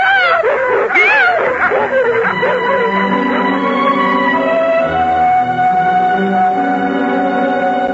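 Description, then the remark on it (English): Three dogs yelp, whine and bark in a loud, continuous frenzy as they chase everyone away, their wavering high-pitched cries overlapping for the whole stretch with no pause. “The three dogs chased everyone away.”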